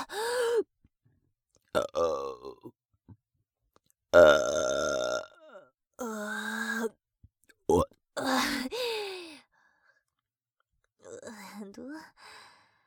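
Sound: burping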